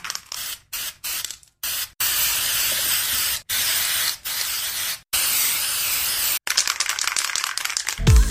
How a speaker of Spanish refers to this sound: Saca el spray, vamos a darle caña a esa pared, hombre.